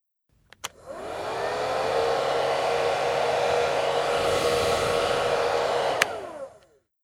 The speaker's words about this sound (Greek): Πιστολάκι.